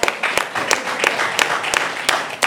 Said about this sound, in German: Ah ja, ihr könnt klatschen.